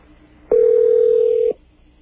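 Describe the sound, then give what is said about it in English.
A telephone ringing as heard through the line on a call to Air India: one steady, mid-pitched electronic tone lasting about a second, starting and stopping abruptly over faint line hiss, with no talking. “Telephone ringing at Air India.”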